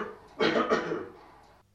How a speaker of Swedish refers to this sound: Och sist här hörde vi August Strindberg hosta till.